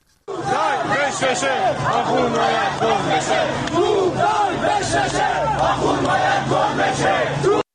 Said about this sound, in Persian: بریم به قم یه صدای معترضان اونجا رو بشنویم.